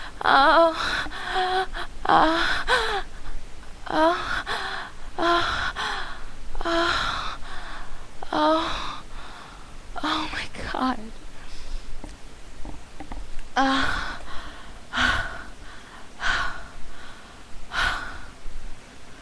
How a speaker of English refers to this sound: I'm sorry for all the heavy breathing, but it kind of comes with the territory.